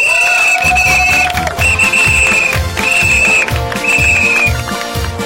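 A shrill whistle is blown in four long blasts, one after another, over a dense, noisy background of children shouting together, from a 2015 Children's Day report made with the children at Radio Metrópoli.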